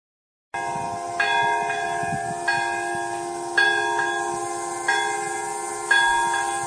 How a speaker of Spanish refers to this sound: Y así, con el sonido de las campanas y de la sirena que hace 70 años anunciaba la caída de una bomba nuclear, la ciudad de Nagasaki, en Japón, ha rendido esta madrugada homenaje a las víctimas